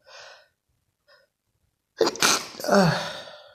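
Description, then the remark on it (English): Two soft breathy inhales with a pause between, then a loud sneeze bursts out, followed by a trailing exhale and a second sneeze-like burst. “I can't stop sneezing.”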